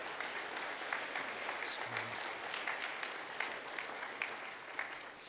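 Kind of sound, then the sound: crowd, audience applauding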